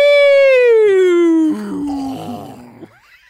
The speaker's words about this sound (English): Oh, I have to yawn for a second.